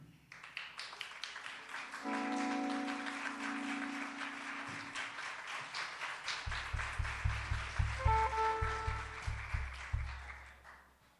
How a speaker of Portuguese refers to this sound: Eu queria chamar aqui e gostaria que vocês aplaudissem de pé a Adelso Viana.